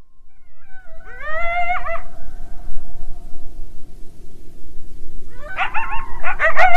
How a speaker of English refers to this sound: And so with the one that they're most known for is the group yip howl. And hopefully we'll be able to listen to that.